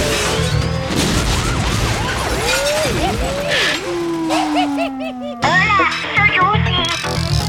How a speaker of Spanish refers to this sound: El hito que cuelga de su espalda y desata la más poderosa explosión nuclear.